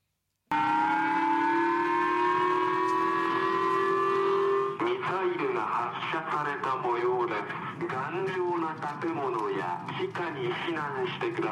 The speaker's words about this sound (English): You can hear the siren blaring, and people are hiding behind walls, running inside buildings. Others have run to the local schoolhouse, which is where we've been told they can take refuge. Of course, this is all just a drill